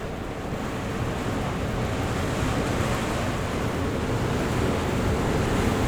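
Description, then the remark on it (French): Strong, rather warm wind gusts roar steadily during a dry thunderstorm, a dense, continuous rush with no clear breaks or separate thunderclaps, and no voices. “Orage sec, beaucoup de tonnerre, des rafales de vent plutôt chaud.”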